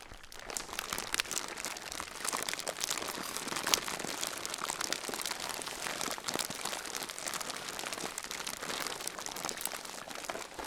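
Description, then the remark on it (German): A fire crackles and pops steadily for about ten seconds, a dense stream of sharp snaps and brittle crinkling at an even, moderate loudness, with no voices. “Auf einmal hörte sie das Knistern und Prasseln des Feuers.”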